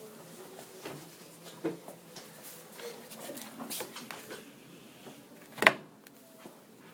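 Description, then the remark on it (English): A chair creaks and ticks softly, with scattered small creaks throughout and one sharper, louder crack near the end. “Why is that chair like marking on?”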